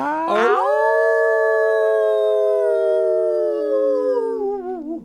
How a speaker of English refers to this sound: A wine in my hand and a glowing inside me, overwhelmed by the beauty, a howl of joy.